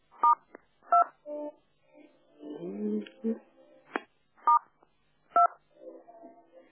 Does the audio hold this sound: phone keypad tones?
yes